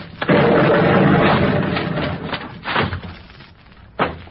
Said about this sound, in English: what's happened? What was that explosion?